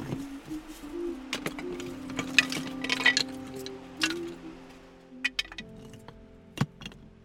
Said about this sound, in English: Before we leave, she stacks up a wall of stones to cover the entrance to Coltrane's cave, humming to herself.